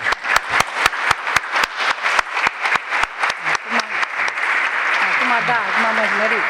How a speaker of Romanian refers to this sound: Atâta? Da. Am crezut că m-a aplaudat vreo jumătate de oră.